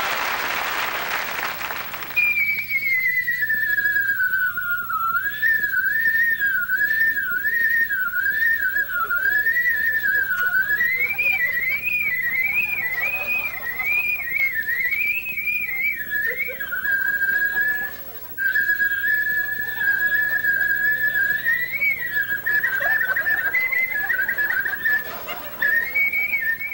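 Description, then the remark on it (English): A man whistles a long, lively medley, the pitch darting up and down in quick trills and runs, clear and sustained for over twenty seconds, with a burst of applause at the very start. “Now, this is whistling on a whole different level”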